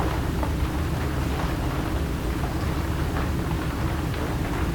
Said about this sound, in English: Aware of the movement of rain through silence.